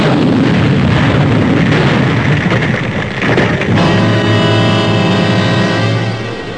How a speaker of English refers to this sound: He wouldn't listen, so I determined to get the coffin open. When suddenly, there was a flash of light and a loud explosion.